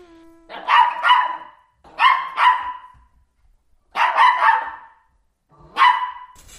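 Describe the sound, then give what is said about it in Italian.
AI-generated Chihuahua barks, made with ElevenLabs' Text to Bark site translating a spoken phrase, in short, high-pitched, yappy bursts: quick doubles and a rapid cluster, separated by brief pauses, ending with one final yap. The barks are loud and clear, with no talking. “Questa è la versione Chihuahua.”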